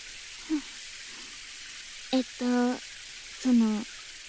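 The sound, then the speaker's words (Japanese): A steady, soft hiss of shower water spraying runs throughout, the shower playfully sprayed at a person's face, with a few short voiced vocal sounds from a person rising over it near the end. “もう、ちょっとふざけて顔にシャワーかけただけじゃん。”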